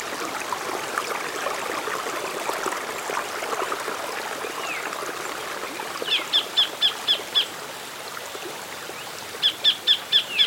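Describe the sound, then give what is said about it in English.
A tiny kingfisher with a golden-orange breast and bright blue head, perched on a rock by a rainforest creek, gives two quick runs of sharp, high, piercing calls, about five or six notes each, close by, cutting through the steady gurgle and ripple of creek water splashing through the rocks. “Hello, little kingfisher bird.”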